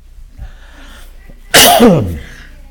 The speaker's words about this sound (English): Excuse me, I need to cough.